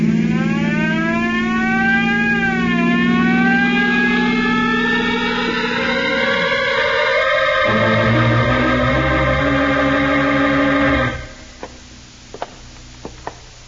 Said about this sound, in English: You better go a little faster, then. That's a good idea. Use that siren.